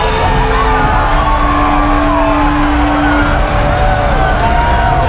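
A large crowd cheers loudly and continuously, a dense roar of many voices with whoops and yells rising and falling over the whole stretch, with no single voice standing out.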